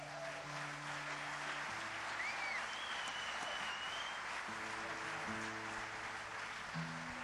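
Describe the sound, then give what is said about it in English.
An audience claps steadily for several seconds as a guitar player is introduced before a medley of fiddle tunes, a dense, even patter of hands that never lets up, with a few low held instrument notes sounding faintly underneath. “would you give a hand to”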